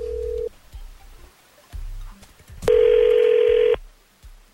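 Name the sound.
telephone call ringing out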